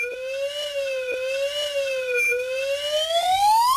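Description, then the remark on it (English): A slide whistle plays a steady, loud tone that wobbles gently up and down in pitch, then glides upward in a long rising sweep at the end. No one speaks. “Because graphs don't translate well to podcasting, instead, this slide whistle will give you an idea of what the graph would look like.”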